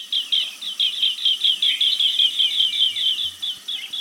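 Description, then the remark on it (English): A green bee-eater (Merops orientalis) gives a rapid, steady stream of shrill, trilling chirps, repeated without pause and heard clearly with nothing else around. “Well, consider the green bee eater, Myrops orientalis.”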